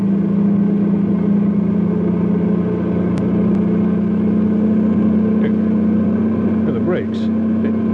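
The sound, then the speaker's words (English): A heavy truck carrying a load of nitroglycerin drones loudly and steadily as it runs downhill at dawn toward Landslide, a town at the foot of the mountains; a constant low hum with a couple of faint clicks and a brief rising whine toward the end. “Les and his truckload of nitroglycerin is heading for Landslide.”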